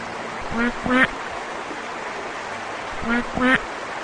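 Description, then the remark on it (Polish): A duck quacks in two short double bursts, a few seconds apart, over a steady wash of flowing water or pond ambience. “W drodze spotkali kaczkę Dziobaczkę, co posiadała wiele talentów i dziobała wszystko, co pełzało po ziemi.”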